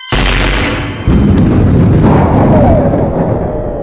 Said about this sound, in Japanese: その時、ミキアンを苦しめる大輔の笛の音が爆発音に妨害されて、ミキアンの耳から消えた。